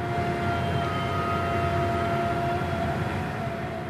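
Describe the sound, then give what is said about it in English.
A drill rig in the Barnett Shale, Texas, drilling to shatter rocks and release oil and gas, roars steadily, a dense low rumble with sustained whining tones layered on top. The loud drone holds unchanged throughout, with no voices. “To start out, I want to play you a piece of sound. And imagine you live right next door to this drill rig.”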